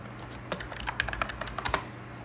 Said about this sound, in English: Sorry for my typing.